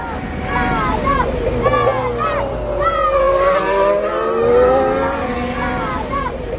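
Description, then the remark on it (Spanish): Young Italian fans shout and cheer excitedly from the bridge outside the Fiorano circuit, their high voices overlapping throughout, while Carlos Sainz's Ferrari racing car roars past underneath during testing, swelling and fading within a few seconds. “El ánimo de los niños italianos al paso del coche Ferrari de Carlos Sainz”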